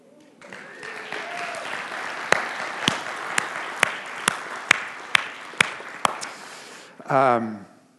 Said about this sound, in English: Thank you. If you had lived with us for 18 years, you would have clapped a lot louder.